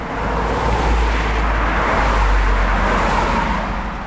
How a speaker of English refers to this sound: Cars speed by the road right next to Walden Pond. Boston is about 20 miles to the east.